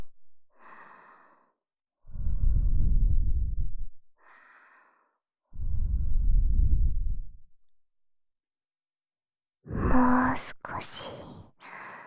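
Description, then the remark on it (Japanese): Soft breaths blown gently into the other ear as the last step come in two long, airy puffs with brief pauses between, followed by a short burst of faint whispering and rustling. “で、最後はこっちのお耳もふーしましょうね。”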